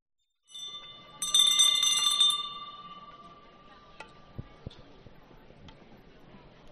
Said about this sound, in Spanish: Estábamos escuchando el muñidor, la campana que porta, el servidor que por delante del diputado de Cruz de Guía va abriendo camino. Librea negra, dorados.